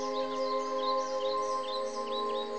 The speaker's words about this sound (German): Und wunderschöne Vogelmusik klingt von den Bäumen und die Grillen summen.